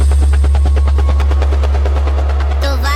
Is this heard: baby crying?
no